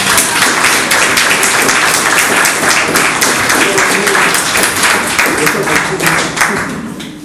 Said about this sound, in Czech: Takže gratuluji a poprosím také o potlesk.